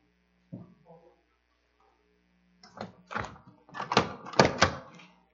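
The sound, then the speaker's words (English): A door creaks faintly on its hinges, then a run of loud clattering knocks and rattles follows as it is swung back and forth, with a steady low hum underneath. “Put your finger in here, and somebody can just almost just blow on the door.”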